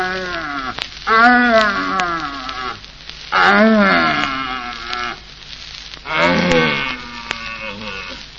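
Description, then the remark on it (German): Three drawn-out, groaning bellows from searching red deer stags in rut in a forest, weak, medium and very strong stags heard in turn, each rising and falling in a deep harmonic moan, separated by brief pauses against faint outdoor background hiss. “Wir pirschen mit einem Jäger durch den Wald zu einem ihm wohlbekannten Brummplatze und hören auf dem Wege dorthin nacheinander schwache, mittelstarke und ganz starke suchende Hirsche, deren Verlauten man auch Knören nennt.”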